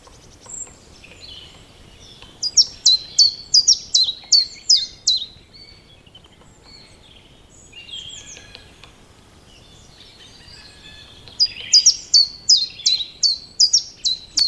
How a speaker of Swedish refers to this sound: Och så här låter gransångare alltså.